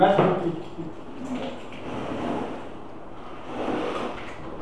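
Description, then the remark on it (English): A broken door is unlocked with a key and pulled open: a sharp metallic clatter at the start, then a few duller scrapes and shuffling movements, with faint muffled voices in the background. “you can't open the door”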